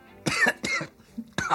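Three harsh coughs in a quick fit, the first two back to back and the third after a short pause, with no talking around them, from someone who swallowed the wrong way.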